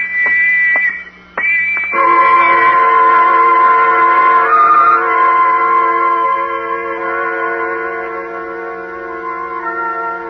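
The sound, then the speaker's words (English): A loud, shrill whistle blows with a few brief breaks in the opening seconds, then sounds continuously with several layered tones over a low steady hum, with whistles and bells sounding all around; no one speaks. “And the whistles and the bells all around.”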